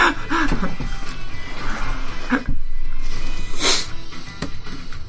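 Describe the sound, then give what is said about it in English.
A cat makes a few short, close meows and squeaky cries, broken up by sniffs and rustling over steady background noise, with no one talking. “I pull out a cat that I can let play in his wounds.”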